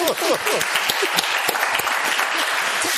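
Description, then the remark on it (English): A crowd applauds steadily, many hands clapping in a dense, even wash that holds at a constant loud level throughout, with a few faint voices mixed in at the start. “Right, you can clap.”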